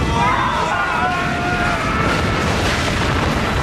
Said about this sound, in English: The car explodes into flames.